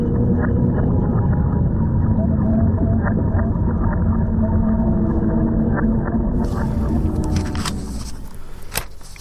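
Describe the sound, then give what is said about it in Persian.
Underwater recording of calls of Vladimir, a beluga whale suspected of spying that reached Norwegian waters: a busy stream of high chirps, whistles and clicks over a low rumbling hiss, fairly loud and continuous, with no talking. “بله، ولادیمیر بود، نهنگ سفید مشکوک به جاسوسی”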